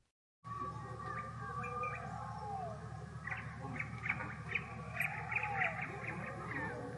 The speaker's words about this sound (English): The birds chirped merrily as they began their journey, with the lush green leaves rustling in the gentle breeze.